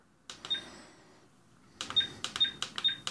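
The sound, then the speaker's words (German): A small plastic device is switched on, clicking and whirring: one click with a faint tone, a pause, then a quick run of sharp mechanical clicks, each followed by a brief high electronic beep. “Dann mache ich dieses komische Plastikding an.”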